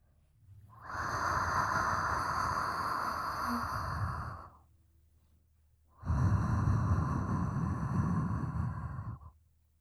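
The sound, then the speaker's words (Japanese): Two long, heavy, hot breaths blown right against the microphone, each a few seconds of loud, airy rush separated by a short quiet pause, with no talking. “熱い吐息、感じますか？”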